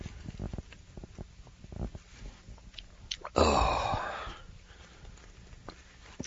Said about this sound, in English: A little slurp of coffee here might help get things going a little better.